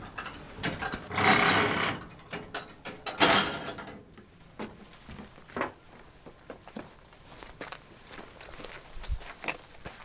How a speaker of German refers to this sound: Und deswegen gibt es eine mechanische Kraftübertragung mittels dieser Spindel, wo dann die Bremsen an einem Wagen doch wieder angelegt werden können und so der Zug besichert werden kann.